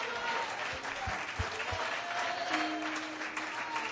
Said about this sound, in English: Somebody give the Lord a great hand clap of praise.